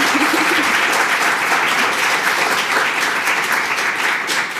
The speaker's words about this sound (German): Ich bitte um einen noch viel frenetischeren Applaus als gerade eben